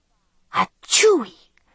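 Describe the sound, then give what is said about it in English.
A voice imitates the motor of a tired old car sputtering like a sneeze as the car moves slowly along: a short breathy burst, then a louder drawn-out "choo" that slides downward, alone. “From the sound of its motor, it was a tired old thing that used sneezes as a means of power.”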